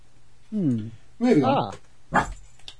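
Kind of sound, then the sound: animal, dog barking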